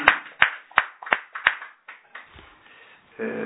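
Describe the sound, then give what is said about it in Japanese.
About six sharp, evenly paced hand claps of applause for a wedding anniversary and a 79th birthday ring out over roughly a second and a half, then trail off into soft scattered noise, with a low steady hum rising at the very end. “満79歳を迎えられましたので、盛大な拍手でお願いします。”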